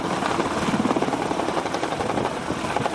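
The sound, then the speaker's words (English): A loud, steady mechanical roar with rapid rhythmic pulsing from planes taking off and landing during a Taiwanese military drill, filling the scene with dense engine noise and no voices. “Taiwanese troops fire smoke grenades, planes take off and land, tanks trundle forward with scurrying soldiers running behind.”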